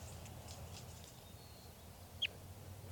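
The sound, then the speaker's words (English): A single sharp flight call from a crossbill being handled, a quick bright chip that pops out once near the end over a low, steady background rumble; recorded at 12:20 p.m. on June 4, with occasional rain and hail. “And the flight call.”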